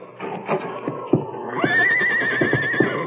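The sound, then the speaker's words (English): A horse whinnies in a long, wavering high-pitched call that rises and holds for over a second, preceded by shuffling, thudding movement and a few sharp knocks. “Anything wrong with your horses?”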